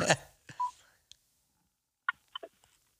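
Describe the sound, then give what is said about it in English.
Phone buttons being pressed to silence a phone: a clack, then several short electronic keypad beeps at irregular intervals, a few mid-pitched tones followed by a quick cluster of brief higher bleeps. “Let me silence this phone.”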